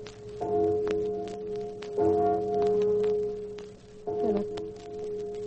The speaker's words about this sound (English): why is the church bell tolling? They are burying someone in town